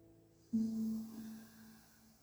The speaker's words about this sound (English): If you like to breathe nose or mouth, you can also decide about the rhythm, like your speed of breathing, your strength of breathing, how big the air waves are, and small waves, big waves, if they come fast or slow.